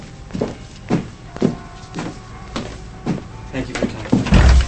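Steady footsteps cross a room at an even walking pace as someone leaves a darkened bedroom, followed near the end by a heavy, low thud as the French doors swing shut behind him.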